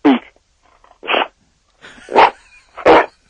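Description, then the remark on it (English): Hawk, a dog, barks on command to speak, giving four short, sharp barks with uneven gaps between them, the last two louder and more tonal than the first pair, with no talking over them. “Hey, Hawk, they want to hear you. Yeah, come on, speak.”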